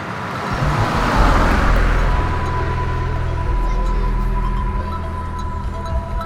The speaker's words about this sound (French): Une voiture passe.